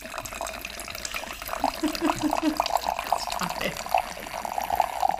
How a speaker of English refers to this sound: Stop it. It sounds like you're peeing right now. It does kind of sound like I'm peeing into a glass. That is... What is... Anyways, can anyone guess? No? No guesses? Nope. That's Cabernet Sauvignon through an aerator.